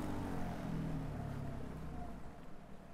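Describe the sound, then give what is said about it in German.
A small boat's outboard motor drones steadily on the Rio Coa river, a low continuous rumble with a faint wash of water and wind over it, with no one talking. “Um die Felsmalereien richtig zu sehen, muss man nah ran. Das geht nur mit einem kleinen Boot.”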